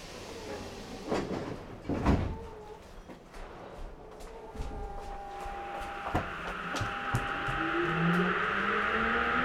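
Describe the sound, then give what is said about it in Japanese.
A subway train in Sapporo, bound for Sakaemachi with Tsukisamu-Chuo as the next station, pulls away on its rails: a few sharp clunks, then a rising electric motor whine over a steady rumble that builds in loudness as it gains speed. “皆様、地下鉄をご利用いただきましてありがとうございます。この電車は栄町行きです。”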